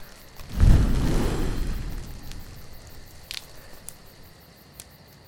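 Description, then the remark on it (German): A single strong puff of breath whooshes out to blow out a campfire that is not real but a played sound, a low rushing gust that fades over about a second, followed by quiet hiss and a few faint crackling ticks of the fire. “Und dazu puste ich das Feuer jetzt einfach mal aus.”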